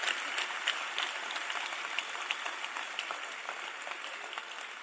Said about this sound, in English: Clap for Jesus. I think he deserves a clap offering.